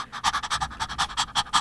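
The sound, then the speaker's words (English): A person imitates a dog panting: quick, breathy huffs repeating in a steady rhythm, about ten short pants, clear with no talking. “It's where they stick their tongue out and open their mouth and start breathing. This is how they do it.”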